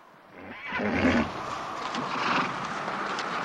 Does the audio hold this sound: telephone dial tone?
no